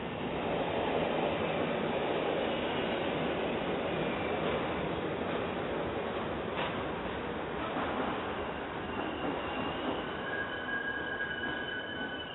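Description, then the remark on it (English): A subway train rumbles steadily along the tracks, a dense, continuous loud roar with metallic screeches of wheels sliding in near the end, with no voices. “They made it onto the subway.”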